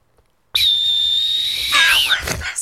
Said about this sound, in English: I wanted to do a sentimental. I wanted a sentimental whistle blow.